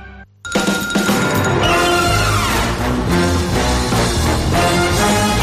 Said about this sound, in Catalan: És una música superenergètica, és de la banda sonora de Los Increïbles